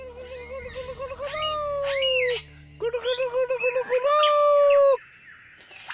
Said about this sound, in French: Un magnifique oiseau lyre, aussi appelé ménure superbe. Refait ? Il possède la faculté d'imiter le chant des autres oiseaux ou divers sons entendus. C'est bien celui-ci. Y compris la voix humaine ou le bruit d'une tronçonneuse.